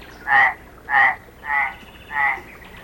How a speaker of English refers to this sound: Right, not a bear, a frog.